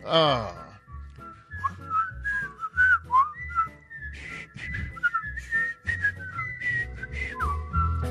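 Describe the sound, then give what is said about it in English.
A person whistles a bouncy, melodic tune, the pitch sliding and hopping between notes over a steady low accompaniment, with a brief burst of voice at the very start. “That's a tough whistle right there.”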